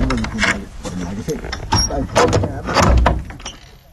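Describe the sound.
An old homemade bolt rattles and scrapes as it is worked open, followed by the old door of a small sheet-metal shack in Rwanda swinging with clunks and a creak, while a person talks over it.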